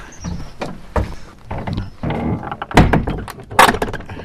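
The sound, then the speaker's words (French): A heavy metal door, a fake armoured door made from a piece of an old hatch, is worked open at the bottom of a flight of wooden steps in a home, with clanks, scrapes and a low grinding creak, ending in two sharp metallic bangs. Nobody speaks. “Là déjà, les premiers travaux, parce qu'il y a une volée de marches en bois pour descendre quoi, environ 1,50 m, une porte magnifique en train d'ouvrir.”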